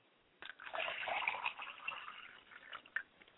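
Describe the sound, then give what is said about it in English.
Liquid is poured out as a libation to the west in a steady, splashing stream for about three seconds, a soft hissing trickle with a few small gurgles near the end. It is fairly quiet, with no talking. “I pour libation finally to the west and I say Ashe.”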